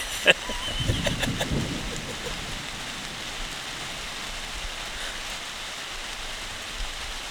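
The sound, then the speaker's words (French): Light rain begins to patter down in a steady, soft hiss across the whole scene, with a sharp tap near the start and a brief murmur of voices early on. “Ah, ça commence à tomber.”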